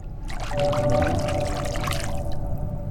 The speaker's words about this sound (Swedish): Ja, för du spelade på det här vattenbadet nästan som på ett piano först. Du tog på olika platser, så här. Och sen kan man dra med handen genom vattnet.